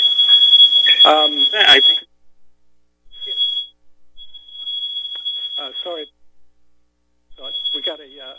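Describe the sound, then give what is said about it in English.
A shrill, high-pitched smoke alarm, set off by accident, sounds in repeated beeps, some long and some short, loud, while people talk over it at times. “Smoke alarm just went off by accident.”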